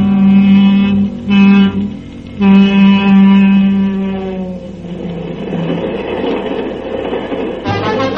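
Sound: train running on rails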